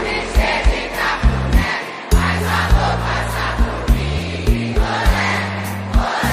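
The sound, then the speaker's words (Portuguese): A large concert crowd sings along with the band in Portuguese in a dense, roaring chorus over loud live music, with a stepping bass line and steady, punchy beats throughout. “Eu quero ouvir vocês cantando assim com a gente.”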